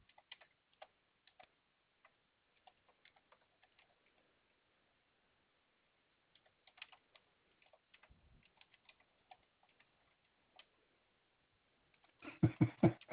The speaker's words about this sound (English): Are you typing? Yes, sir. Hold on a minute. I'm trying to send to my... Sounds like you're about to burn that machine up. You type like me. Pick, pick, pick.